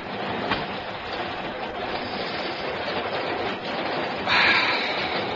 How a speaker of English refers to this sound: Like the overnight to Manchester. Four Englishmen in a Russian train.